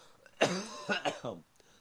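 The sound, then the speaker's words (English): A fairly loud burst of coughing, three rough voiced hacks in quick succession with a throaty edge, then quiet. “And I'll explain it in a minute, but I have to cough.”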